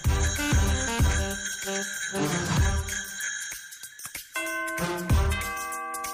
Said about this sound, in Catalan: Truquen! Ah, sí. Capravo. Truquen a la porta de Radio Estel. Ding dong, ding dong. Qui serà? Capravo, que vol entrar en les nostres vides.